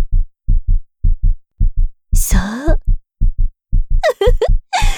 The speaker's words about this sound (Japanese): ドキドキって鼓動がカメラ越しにお姉さんにも聞こえてきそう。